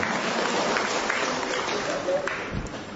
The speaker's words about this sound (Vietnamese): cho một tràng pháo tay chào người về từ cõi sắp chết.